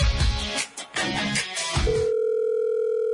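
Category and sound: signal or alarm, telephone ringback tone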